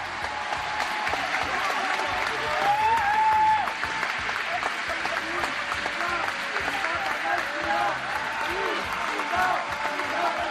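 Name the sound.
crowd cheering in jubilation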